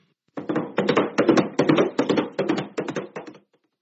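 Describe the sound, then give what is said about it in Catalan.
Horse hooves galloping in a steady, driving rhythm of hollow clopping beats. They start abruptly, hold an even loudness for about three seconds, then stop, with no voices. “Quan de sobte es va començar a escoltar el soroll d'un cavall a galop.”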